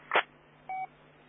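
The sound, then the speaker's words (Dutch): A single short telephone keypad tone beeps clearly, preceded by a brief handling click, against a quiet background with no talking. “Ik pak weer even de telefoon.”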